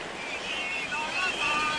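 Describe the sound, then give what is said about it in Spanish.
Steady, broad rushing of ocean surf fills the short stretch at a fairly even level, with faint whistling tones drifting over the wash of the waves. “Bueno, no, aquí hay algún problema técnico, se nos está colando un sonido que no estaba previsto. Llega la marea verde a Hortaleza.”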